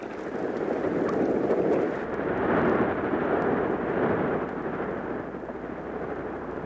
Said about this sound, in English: But all of us who live near the sea can listen to the majestic roar of the waves on its surface.